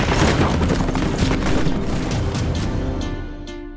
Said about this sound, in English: When Frank heard the gunfire, he knew that time was up.